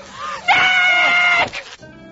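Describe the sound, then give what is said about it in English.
A woman lets out a loud, high-pitched scream held for about a second, followed by a brief strained cry as it breaks off. “And so now she reveled in shouting at the top of her lungs.”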